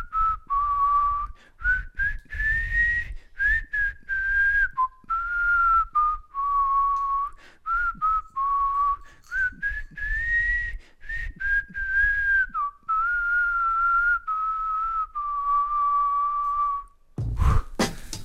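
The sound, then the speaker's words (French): A father whistles a melodic tune for about seventeen seconds, clear, the pitch rising and falling in phrases, with some low background rumble and a brief noise at the end. “Papa, tu nous siffles quelque chose?”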